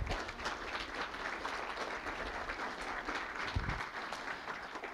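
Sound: audience applause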